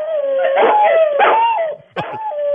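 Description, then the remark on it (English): A Rottweiler, prompted by its owner's wife, 'sings' in long, wavering, sing-song howls, two drawn-out howls rising and falling, then a brief break before another sustained howl; loud and alone, with no talking. “a Dottie Roddy, a Rottweiler”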